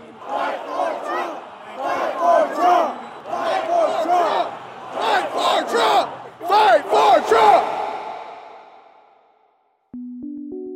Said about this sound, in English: In fact, as Perdue walked away, a different chant started taking shape. A chant about exactly what the crowd wanted the Senate candidate leaving the stage to do.